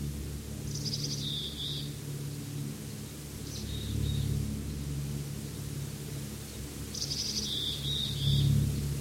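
A faint call from a bird across the road and up the hill, answering another bird, repeats twice in short high-pitched bursts, with a brief weaker note between them, over a steady low rumbling background hum.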